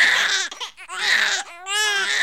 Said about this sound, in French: Vous avez entendu ces pleurs ? Eh bien, ce sont des pleurs de bébés.